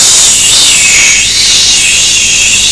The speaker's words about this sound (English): Okay, and then we get the shower and we rinse it again.